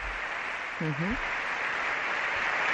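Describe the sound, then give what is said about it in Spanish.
Steady applause from everyone present in the hemicycle of Spain's Congress, a dense continuous wash of clapping with a brief voice cutting through early on, as the King and Queen, the Princess of Asturias and Infanta Sofía enter for the solemn opening of the Cortes. “Aplauso de todos los presentes.”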